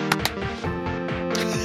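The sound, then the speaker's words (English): Two sharp hand claps in quick succession, a fraction of a second apart, made to sync audio for an editor before a recording, ring out over a steady droning hum; no one speaks, and a softer burst of noise follows later. “before we start the recording, we have to clap to sync things for our audio editor”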